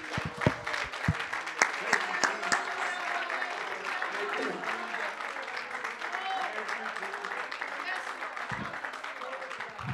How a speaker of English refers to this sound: Why don't we clap our hands again?